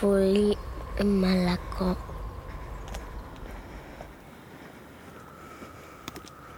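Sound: wind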